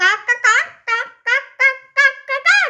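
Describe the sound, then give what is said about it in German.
A person imitates a chicken clucking: about eight short, voiced bursts in a quick, uneven rhythm, fairly loud with nothing else underneath. “Überleg dir das nächste Mal, mit wem du dich anlegst, du gerupftes Hühnchen.”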